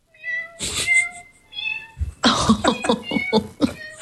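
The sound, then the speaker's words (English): A string of synthesized cat meows from the Cat Piano synthesizer app plays alone, starting with a few tonal, sustained mews and then a rapid run of short, choppy meows in a quick melodic sequence, fairly loud. “You have a variety of different cat sounds, everything from angelic kitty to asthmatic kitty.”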